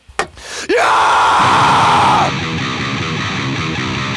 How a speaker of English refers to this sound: Give me a scream,